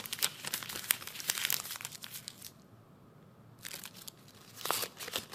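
A sheet of paper is crumpled up, crackling in dense bursts for about two seconds, pausing briefly, then crinkling again toward the end. No one speaks.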